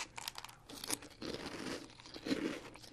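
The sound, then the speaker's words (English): Crisp crunching of dry breakfast cereal being chewed during a blind taste test comparing brands, a steady run of crackly bites over a few seconds with no talking. “Very crunchy. Very sweet.”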